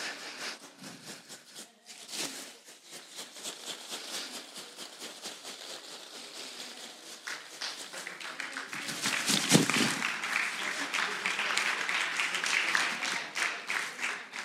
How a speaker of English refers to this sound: Y'all clapping, but we ain't done yet.